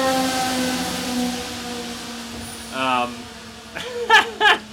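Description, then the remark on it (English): A big fire truck goes by with a steady, droning siren tone, then a brief warbling wail and several loud horn blasts near the end, prominent. “We got a big-time fire truck coming by.”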